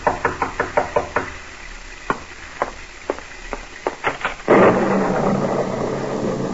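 A quick run of sharp knocks on a door, then several slower, spaced raps, followed by a sudden steady rush of wind-like noise, on a dark, stormy night. No one speaks.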